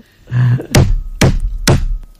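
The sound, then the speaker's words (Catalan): Three firm knocks on a wooden door at nearly 2 a.m., evenly spaced about half a second apart and loud, preceded by a brief low thud; no voices. “No heu sentit un soroll a la porta? Algú està tocant.”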